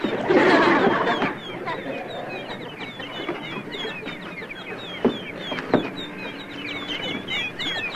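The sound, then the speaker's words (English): A chorus of high, rapid chirps and peeps from many baby birds keeps up throughout, opening with a louder squawking burst and broken by a couple of sharp knocks. “Hey, baby bird! Jeepers! It's his family!”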